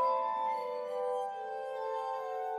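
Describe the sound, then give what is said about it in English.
Sustained, shimmering glass tones from a glass harmonica ring out alone, several pure pitches held together and swelling gently, with a soft, ethereal sheen and no voices. “Whatever Mesmer was doing with his patients in Vienna, it almost certainly involved his glass harmonica.”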